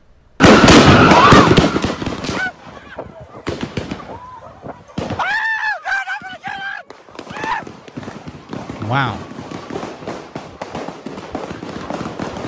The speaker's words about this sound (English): That is a lot of gunshots, man. And in that video, you can see right there a lot of people put in danger. Women, children, elderly. You can see just how scary things got at this block party. You can even hear the many gunshots fired at the park.